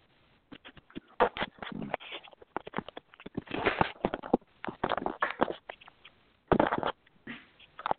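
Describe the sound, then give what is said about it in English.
Rustling and scuffing over a phone call line while a guest who may be on mute is being connected to a studio: irregular bursts of crackly, muffled handling noise come and go, with brief quiet gaps and a louder flurry near the end. No one speaks. “It sounds like I hear rustling.”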